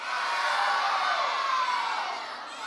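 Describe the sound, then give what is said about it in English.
A crowd of children shout out the Christmas movies they have watched, such as Elf, The Grinch, National Lampoon's Christmas Vacation and Home Alone, all at once, a loud, overlapping jumble of high-pitched voices that holds steady for a couple of seconds before trailing off slightly. “On the count of three, I want you to scream out the movie that you watched, the Christmas movie that you've watched, okay?”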